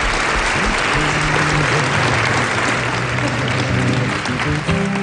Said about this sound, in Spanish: Constantino Romero, muchísima suerte, muchísimos besos y un aplauso que te mandamos los amigos de Cuenca.